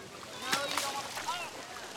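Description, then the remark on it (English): Stingrays splash in shallow water as people feed them at the Phoenix Zoo, a few quick sloshes and slaps in irregular bursts, with faint voices of people talking. “When they're hungry, they splash.”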